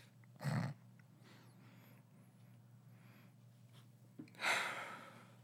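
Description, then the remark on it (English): Two breathy sniffs separated by a few seconds of quiet, the second a longer, drawn-in inhale, as someone smells beer just poured into a glass. No one speaks. “So let me sniff the shit out of this beer real quick.”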